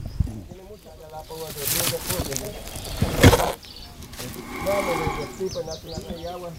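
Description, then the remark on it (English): A giant tortoise breathes in slow, heavy bursts of breathy hissing. The strongest comes near the middle, loud and raspy, while voices murmur underneath. “That is the sound of a tortoise breathing.”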